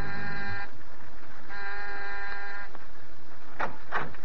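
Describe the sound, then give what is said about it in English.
An apartment doorbell, rung by someone in the hall outside, buzzes twice: two loud, steady, harsh electric tones, the first short and the second longer, separated by a brief pause and followed by a couple of soft thuds. “Almost before he's out of sight, you're down the hall ringing the doorbell.”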